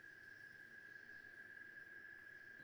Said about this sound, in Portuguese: Nós ouvimos agora cigarras. As cigarras ainda existem.